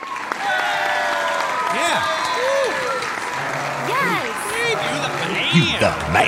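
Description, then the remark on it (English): A crowd applauds steadily for about six seconds, the dense clapping mixed with sliding whistles and scattered cheering voices rising and falling throughout. “Let's hear it for Steve.”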